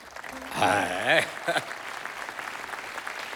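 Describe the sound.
An audience applauds the group's sound engineer with steady, dense clapping throughout, while a voice briefly rings out over it early on before the clapping carries on alone.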